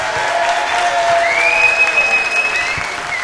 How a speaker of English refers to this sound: We've got more whistles for that, so I'm going to say that the glittery one should win.